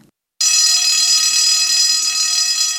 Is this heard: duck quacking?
no